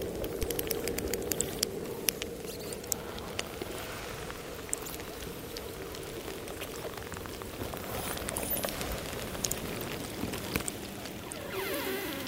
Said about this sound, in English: The more compressed, the older the ice is, it's more potent, it's more kind of sharp, crackling sounds that you hear. And it has a different characteristics than one-year-old ice.